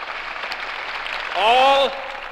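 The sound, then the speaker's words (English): A crowd in Berlin applauds a speech containing the words "Ich bin ein Berliner" in a steady, dense roar of clapping throughout, and a single voice briefly rises above it with a held, wavering cry near the middle. “To me, the most telling thing is, if you listen to the clip, the crowd in Berlin goes crazy with applause.”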